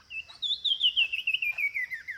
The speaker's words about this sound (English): Now, here again is the Sumacrest's wren.